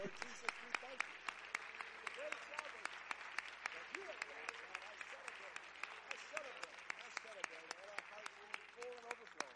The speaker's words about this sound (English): And why don't we just at the outset clap our hands in thanksgiving for what he's done together.